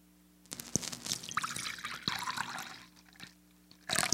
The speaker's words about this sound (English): He poured the cup and he took a drink and he shared it with his friends.